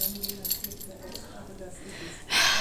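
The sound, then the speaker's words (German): Metallic jingling of keys to a luxury suite as they are handed over, light clinks scattered through the first seconds, ending in a louder, brighter burst of jangling near the end. “Hier sind Ihre Schlüssel für die Luxus-Suite.”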